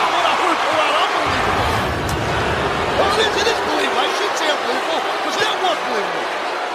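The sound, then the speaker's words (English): A SmackDown wrestling arena crowd in Little Rock cheers in a loud, continuous roar as Edge wins the title, with scattered shouts and whistles rising out of the dense wall of voices for the whole stretch. “Listen to this crowd in Little Rock.”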